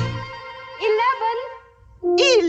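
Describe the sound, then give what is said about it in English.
Newborn Dalmatian puppies, counted up to eleven, whimper and yelp in two short bursts, high wavering whines rising and falling in pitch over a low background hum, with a brief quiet gap between them. “Oh, the puppies are here! How many? Eight?”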